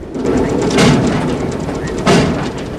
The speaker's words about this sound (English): Reeling back, … deliberately bangs his head on a metal locker.